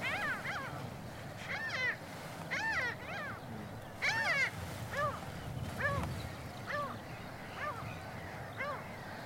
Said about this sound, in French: Ah, on entend la mouette mélanocéphale, on dirait un chat là. Miaou !